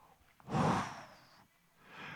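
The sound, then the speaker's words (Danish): A single forceful breath pushed out, a broad breathy rush lasting under a second, made by a voice imitating exhaling, followed by quieter air noise. “Og så er der kommet et rum ind i dit hjerte, som er tomt. Og så ånder han.”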